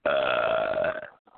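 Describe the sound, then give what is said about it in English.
A long, loud, drawn-out burp lasting about a second with a steady tonal rumble, followed by a brief quiet moment. “over there who usually burps.”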